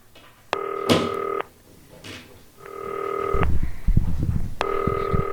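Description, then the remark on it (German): A green telephone rings three times as a call is placed to Uli Hebel, each ring a steady, buzzy electronic tone lasting about a second, evenly spaced, with soft clunks and handling noises in the gaps and no talking. “Klingelt aber jetzt.”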